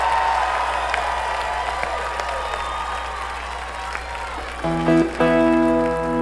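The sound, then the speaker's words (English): A concert crowd at the end of a a band show applauds and cheers for the crew in a dense, steady roar of clapping for several seconds. Near the end, sustained musical tones begin to sound over the fading applause. “Before we go, we'd like to get a big round of applause for all the people who made this happen today.”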